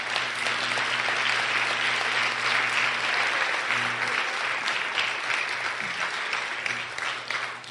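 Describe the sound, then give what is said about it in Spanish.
Sustained applause from a large audience for a young man, a dense, steady wash of clapping lasting several seconds, with a low steady hum underneath and no speech. “Denle un aplauso a ese joven.”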